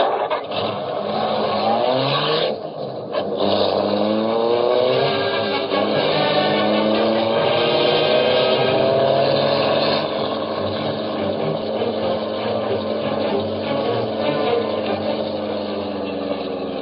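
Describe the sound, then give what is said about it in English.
A car engine drones steadily and loudly throughout, rising and shifting in pitch as the vehicle speeds along in pursuit of another car, with a brief dip early on and no voices over it. “There he goes. Get after him and hurry.”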